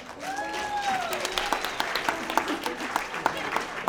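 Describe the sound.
Audience applause for the double bass player at a live music show, a steady patter of many hands clapping, with a few brief voices and whoops rising over it near the start.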